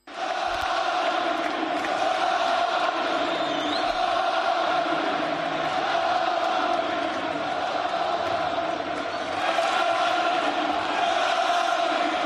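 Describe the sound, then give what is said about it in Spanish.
About 10,000 fans at the Camp Nou chant Xavi's name at his presentation as Barça coach, a loud, steady roar of massed voices holding a rhythmic, sung cadence for the whole stretch with no pauses. “En primer lugar, la afición. Así cantaba su nombre en el Camp Nou.”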